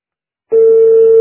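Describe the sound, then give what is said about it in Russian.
After half a second of silence, a loud telephone ringback tone begins, the third ring of the call: one steady, mid-pitched electronic hum that holds unbroken to the end, with no voices. “Три гудка.”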